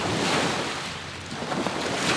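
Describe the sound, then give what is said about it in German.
Elbe river waves wash steadily onto a beach on the Elbe in a broad, continuous rush of water, fairly loud, with a light wind buffeting the microphone and no voices. “Am Elbstrand schlagen die Wellen ans Ufer.”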